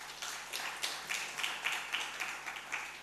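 A crowd at Last Adam Tabernacle claps together in a steady, fairly regular rhythm, the many hands blending into a dense patter, with no voices over it.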